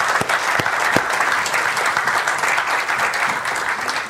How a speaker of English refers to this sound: They're from the Ladies Island Fire Department right across the street. We gave them a good round of applause this morning, but let's give them another one right now.